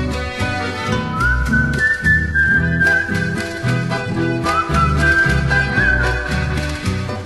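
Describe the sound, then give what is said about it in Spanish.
A soft whistled melody drifts over a steady instrumental backing of strummed chords and bass, with two long whistled phrases and a short pause between them; no one speaks. “Voy al trotecito cruzando el palmar, silbando bajito, pronto he de llegar.”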